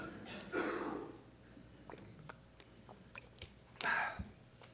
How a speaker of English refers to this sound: Oh man, I needed a drink of water. Hold on, sorry guys.